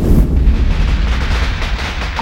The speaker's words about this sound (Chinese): 我记得那是1951年6月，这外面的太阳啊，火辣辣的，村里那棵橄榄树啊，也结满了果子，鞭炮声更是响彻天地。